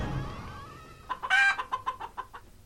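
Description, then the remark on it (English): A chicken clucking sound effect in a coin-prize game, heard when a chicken face is revealed: one bright squawk followed by a rapid string of about six short, evenly spaced clucks, fairly loud with nothing else playing. “Face 10, chicken face.”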